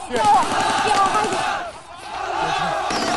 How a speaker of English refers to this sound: they walk upstream into the line of marchers, ducking at the gunfire. A banner passes them written in Arabic. Men with covered faces, women wearing the hijab, men on horseback, men carrying their dead